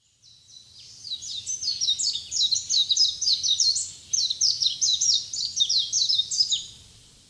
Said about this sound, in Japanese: サンコウチョウです。